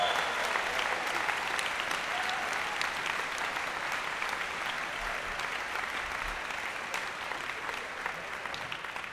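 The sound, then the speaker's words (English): Sustained applause from a large audience for a band, a dense, steady wash of clapping with scattered sharper claps, holding at an even level for about nine seconds before easing slightly at the end. “How about a big round of applause for this fantastic band up here?”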